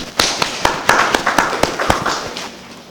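Brief applause: a handful of sharp, crisp claps in a fairly steady rhythm, roughly eight distinct ones, then softer scattered claps trailing off by the end.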